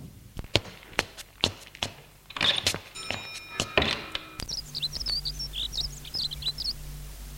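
A series of sharp clunks and clicks, like a latch and handle working, then a man opens a door onto a garden in the morning and the indoor room tone gives way to open outdoor air with birds chirping.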